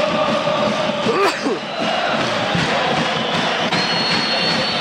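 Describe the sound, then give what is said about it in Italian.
Parma football fans chant together in a stadium, shouting "Forza Parma", a steady, dense roar of many voices with rhythmic swells, loud and continuous throughout, with a brief whistle-like tone rising above the crowd. “Forza Parma, faccio un gol, gridano i tifosi.”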